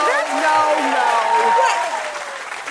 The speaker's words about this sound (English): That's, that applause is white privilege. If you ever wanted a definition of it, there you go.